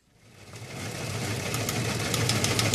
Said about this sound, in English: Well, you can tell by that teletype in the background that it's time for our weekly news chat with our news director,